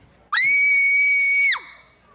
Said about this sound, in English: That was so good. You can catch that each year up at Pioneer Hall on Friday. Thank you very much, kids. That kid just screamed.